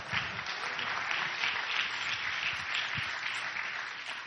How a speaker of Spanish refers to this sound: Dale un aplauso que se lo merece entonces.